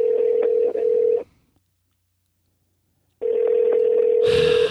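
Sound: phone call ringing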